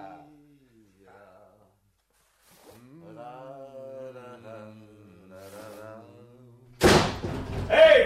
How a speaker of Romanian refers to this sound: Ușa se închide singura.